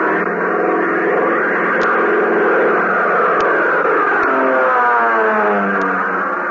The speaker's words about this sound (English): Fellas, doesn't the roar of that plane give you a thrill? Doesn't your heart beat a little faster every time you see one of Uncle Sam's giant birds flying high over the rooftops?